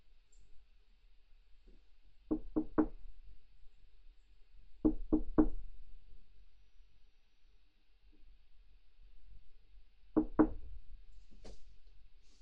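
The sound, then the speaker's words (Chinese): Three separate bursts of knocking on a brother's door by a visiting sibling on a hot day, each a quick series of three sharp raps, spaced a few seconds apart, with no talking. “哥，你怎么这么久才开门？”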